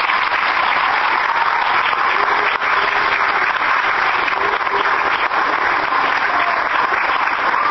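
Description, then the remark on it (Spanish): Steady, dense audience applause for everyone in a program of the Ministry of Education and Culture, the Mides and the Museo Gurvich for children of schools 355, 146, 65 and 15, many hands clapping at a fast, even pace with a bright, crackling texture and no voices rising above it. “hoy nos reúne ha sido tarea conjunta del Ministerio de Educación y Cultura, del Mides y del Museo Gurbich, que promueve en su área educativa este programa dirigido a los niños de las escuelas 355, 146, 65 y número 15, y pido un aplauso para todos.”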